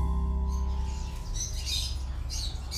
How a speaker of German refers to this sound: Hinter ihm konnte ich erkennen, dass sein Zimmer voll mit Käfigvögeln war, die alle zwitscherten.